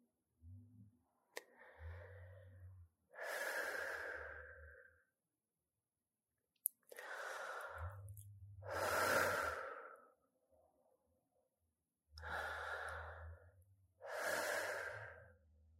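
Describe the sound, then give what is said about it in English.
Three slow, deep breaths, each a soft inhale followed by a longer, louder exhale, with quiet pauses between them and no talking. “So first take 3 deep breaths to let out any tension from your day.”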